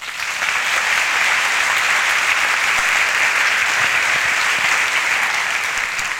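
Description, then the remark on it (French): An audience applauds steadily for about six seconds for a speaker coming onto the stage to tell his story, a dense, even wash of many hands clapping at once that holds its loudness throughout, with no voices standing out. “Donc merci d'applaudir”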